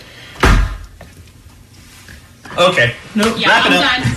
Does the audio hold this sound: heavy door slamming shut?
yes